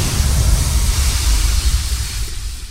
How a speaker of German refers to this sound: Der Wasserdruck hat den Schlamm weggeschleudert und Schätze der alten Ägypter freigelegt.